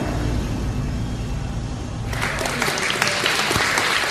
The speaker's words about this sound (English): This is a microchipping party. And applause, yeah.